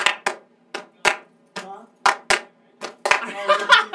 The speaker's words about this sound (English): Alright, we'll do a clap track and then... I like that clap though.